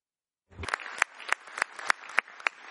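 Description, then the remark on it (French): An audience breaks into applause in tribute to a team for their work, a steady dense patter of many hands clapping at a moderate level, with a few sharper louder claps standing out at regular intervals. “j'allais dire quelques mots, mais cette salve d'applaudissements du public est bien plus efficiente que ce que je pourrais dire.”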